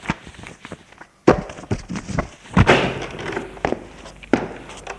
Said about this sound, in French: range ses papiers sur le bureau et les met en pile.